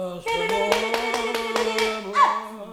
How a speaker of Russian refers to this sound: Однажды в Санси, где мы остановились в номере одной дешевой гостиницы, в дверь постучали.